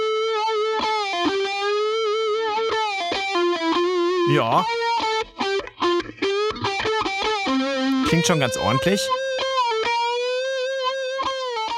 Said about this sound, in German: Das ist quasi die nachgeahmte Red Special im Clean-Modus, ohne Verzerrung. Und jetzt mal mit Distortion dazu geschaltet.